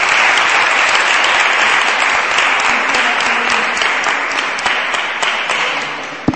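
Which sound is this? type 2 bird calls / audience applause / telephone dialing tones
audience applause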